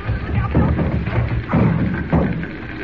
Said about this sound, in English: Jimmy, look out! The door's coming in!